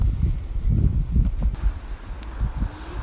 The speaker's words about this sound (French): Il souffle là un vent, une brise légèrement tiède.